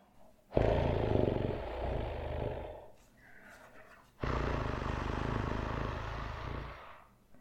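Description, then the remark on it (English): A voice imitates a cat's purr: two long, loud, rumbling buzzes with a short quieter breath between them, low and gravelly with a rough, growling edge. “Until then, I will just continue to, as you said, purr.”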